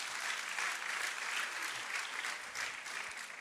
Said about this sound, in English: Yeah, you can give him clap. Pueden aplaudir, hermanos.